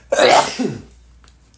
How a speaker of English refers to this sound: See, no cough button here, babe. I sneeze on the mic.